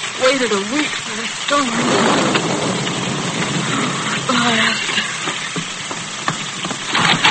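Heavy rain pours in a steady, dense roar from start to finish, with gusts of wind letting out wavering, rising-and-falling howls over the downpour.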